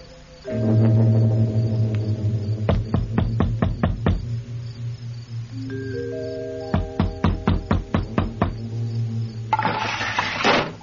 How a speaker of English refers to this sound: You'll have to knock on the door. Bell's broken.